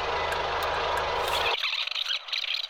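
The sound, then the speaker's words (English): A car engine, the car called Gladys on a motorway with its warning light on, strains with a steady low drone and a high squeal, then its rumble cuts out abruptly halfway, leaving a thinner, wavering hiss and whine. “What's that sound? Oh, gosh, what's this? The warning light's on.”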